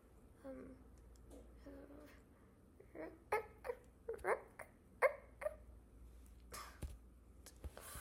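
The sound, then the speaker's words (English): A person imitates a dog with a string of short, sharp barking yelps, fairly loud, followed by a few more scattered vocal barks. “I can bark. Bark. Woof woof.”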